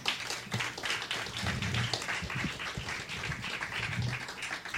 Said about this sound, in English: Can we please get a huge, huge round of applause